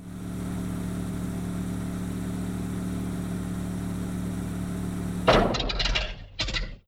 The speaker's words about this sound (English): The car ran out of petrol. It came to a stop.